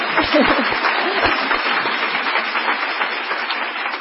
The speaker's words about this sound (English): Let's clap for the Lord in that. It's true.